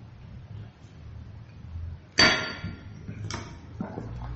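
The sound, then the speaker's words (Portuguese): Someone drinks water from a glass: two sharp glassy knocks as it is handled, about a second apart, with softer clinks after them, over a low steady background hum and no speech. “Já cliquei, já está abrindo a melhor internet do mundo, vou tomar água.”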